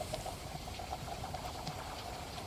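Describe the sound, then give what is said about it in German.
Water at a lake trickles and burbles steadily at a low, constant level, with soft bubbling and small splashes throughout and no voices. “Naja, es plätschert.”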